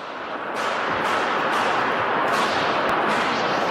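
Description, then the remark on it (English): Several loud gunshots crack in quick, uneven succession inside the large halls of Canada's Parliament, each one booming and echoing so the reverberation blurs into a continuous roar between shots. “a Globe and Mail reporter captured some of the gunfire and images of people running inside the halls of Parliament”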